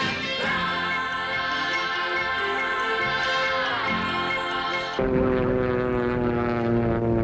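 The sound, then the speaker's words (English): A propeller airplane roars through a pass at the Sky Parade air show at Jackson International Airport, its droning engine pitch swooping up and down with a steady buzzing hum, then shifting abruptly to a lower, harsher growl. “A lot of exciting air show coming up.”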